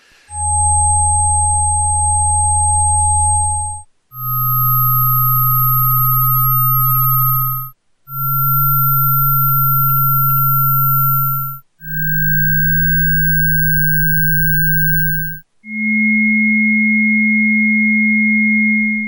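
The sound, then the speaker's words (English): Five steady electronic sine-wave tones play one after another, each held about three to four seconds with brief gaps, rising slightly in pitch from one to the next, loud and clear with no voices. “There'll be 5 tones.”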